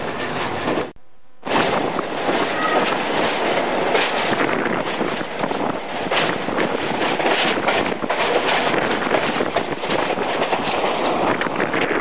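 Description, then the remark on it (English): A train rolls steadily around a very tight curve in the rain, grease squeezed onto the wheel flanges to cut friction, with a loud, continuous roar and faint wheel squeaks mixed into the grinding noise. A brief drop near the start, then the rumble carries on with no voices. “When the wheels go over, they squeeze out some grease onto the flanges of the wheels, and this cuts down the friction on the very tight curve, although you can still get quite a lot of squeaking going on because it's such a tight curve.”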